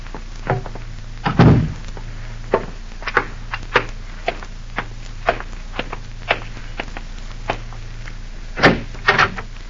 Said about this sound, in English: Close that door